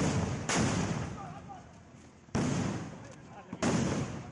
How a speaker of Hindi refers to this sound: ये सीतापुर का कसमंडा है, गोलियां चल रही हैं, हद गोले भी चले, पुलिस अपनी जान बचाती नजर आई।